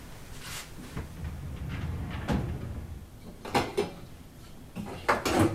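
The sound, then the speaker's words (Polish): The largest pot is pulled out of a kitchen cupboard to soak beans in water, with several knocks and clanks of cookware and a cupboard door, ending in a cluster of sharper metallic clatters. “To weź większy garnek.”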